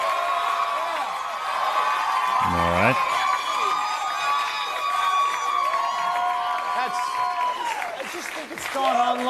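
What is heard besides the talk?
audience clapping and cheering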